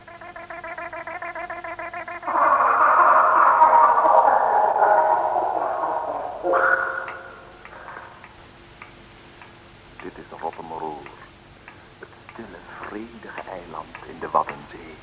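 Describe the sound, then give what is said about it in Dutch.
A clock ticks in a steady, even rhythm against a humming tone, then a louder swell takes over before people begin talking quietly. “De klok tikt de uren.”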